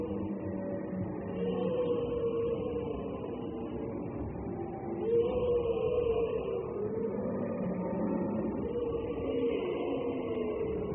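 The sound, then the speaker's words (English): Several camels bellow in long, deep, groaning calls that overlap and swell and fall in pitch as they come in, echoing off the canyon walls at Gelta Arche, with no talking over them. “George is drawn deeper and deeper into the canyon by the sound of bellowing camels.”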